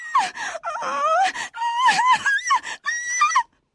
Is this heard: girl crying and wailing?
yes